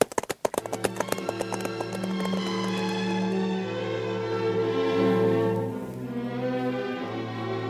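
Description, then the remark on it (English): A quick run of donkey hooves clip-clopping for a couple of seconds, crisp, as the lady of Shunem rides her donkey to Elisha, before sustained orchestral music swells up and carries on alone. “When the lady of Shunem came to Elisha, she alighted from her donkey and bowed herself before him.”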